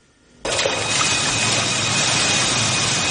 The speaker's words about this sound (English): The helicopter comes over the cliff.